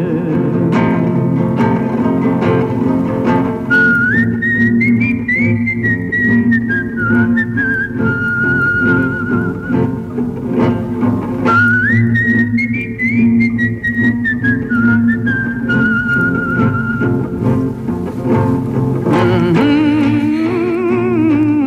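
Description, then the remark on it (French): A person whistles a slow, sustained melody with gliding notes in two long phrases, clear and prominent over a steady, low musical backing, with no talking. “Sifflez, compagnons, dans la nuit, la liberté nous écoute.”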